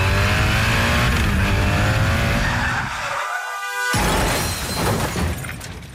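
In a Generalitat de Catalunya motorcycle safety advert, a motorcycle engine revs loudly with a rising whine as it weaves between cars, then comes a screeching skid, a brief drop, and a crashing impact with scattering debris, all intense.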